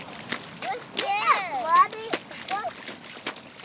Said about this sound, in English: It's the first day of the summer session at Little Bear's Playhouse in Girdwood. Kids are decked out in rain gear as they make huge splashes in puddles outside.